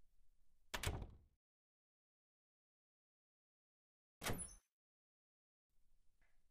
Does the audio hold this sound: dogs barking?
no